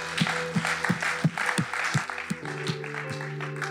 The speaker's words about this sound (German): Lass uns den Leuten einen großen Applaus geben.